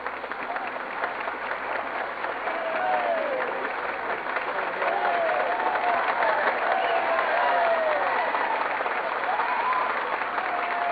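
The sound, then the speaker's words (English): A crowd of standing diners at the testimonial dinner for Postmaster General James A. Farley in Washington, D.C. applauds steadily, a dense wash of clapping that swells and holds, with scattered cheers and whistle-like shouts rising above it throughout. “They stand, applaud, and cheer as the climax of Mr. Farley's testimonial dinner in Washington, D.C. is now reached.”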